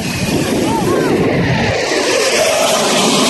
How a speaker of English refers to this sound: That's always worth it just for that. First time a jet rips the sky in half over your head or sneaks up on you. Oh, you feel it, man. It's like it just you feel it all inside of you.